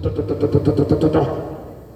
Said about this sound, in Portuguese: E não é porque está batendo tudo, não. É porque é o som do motor. Não sei se você ouviu o som de uma Ferrari algum dia. É espetacular. Eu até abro o vidro quando eu ouço uma. Só para ouvir a sinfonia.